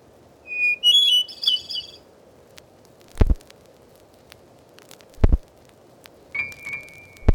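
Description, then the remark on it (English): Familiar North American birds chirp and trill outdoors, recorded by Cornell University's Laboratory of Ornithology in woods, fields or gardens of central New York State: a quick burst of high warbling notes early on and a thin whistled call near the end, with a few sharp knocking snaps between over soft background hiss. “Here are the songs and calls of 60 familiar birds, as recorded in the woods, fields, and gardens of North America by the Laboratory of Ornithology at Cornell University.”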